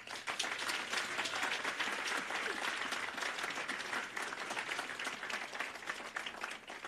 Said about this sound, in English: So, clap.